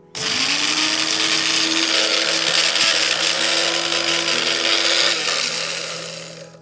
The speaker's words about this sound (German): Wichtig ist, dass das Messer, wenn möglich, scharf ist, weil die Schafgabe doch einen kompakteren Stängel hat. Jetzt geben wir das einfach in den Mixer.